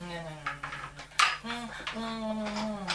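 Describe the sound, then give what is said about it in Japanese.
Dishes and cutlery clink, with one sharp clatter partway through as food scraps are dropped onto a plate, while a voice murmurs underneath. “まだ残ってるから食べてるね。そっちのお皿に捨て、ゴミを捨てて。”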